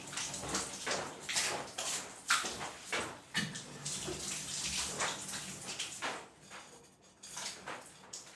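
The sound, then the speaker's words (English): Shower water pours and splashes steadily, with irregular bursts of spray and a few light knocks, briefly easing near the end. No one speaks. “I guess I just have to take showers here.”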